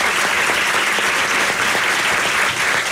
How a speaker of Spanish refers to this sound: Les pido aplausos porque estamos en vivo en el día de hoy, nada más.